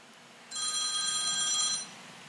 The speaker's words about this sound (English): My phone shouldn't be ringing. It should be ringing through the computer.